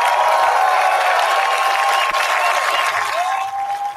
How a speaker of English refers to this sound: And as you can hear, that was one of the big applause lines of the speech coming out swinging against judicial activism.